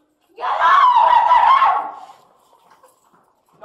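A woman covered in blood, screaming out the door during a Fairfax County Police response to a stabbing, lets out one loud, shrill scream lasting under two seconds, then it trails off into faint background noise. No talking is heard.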